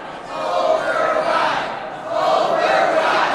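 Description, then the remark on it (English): A large crowd of union members and healthcare advocates cheers and shouts together outside the House chamber, urging lawmakers to fight Pawlenty's plan to cut health insurance for the poor, at a steady, loud level, swelling in two waves with a brief dip between. “The day before, a crowd of union members and healthcare advocates urged lawmakers to fight Pawlenty's plan to cut health insurance for the poor.”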